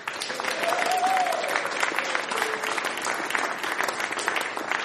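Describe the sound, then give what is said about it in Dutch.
Steady, dense applause from an audience welcoming a Dutch jazz performer back from performances abroad, loud and sustained with many overlapping claps, and a faint whoop or cheer rising briefly within it. “Net terug van buitenlandse optredens, geef dan vast een applaus.”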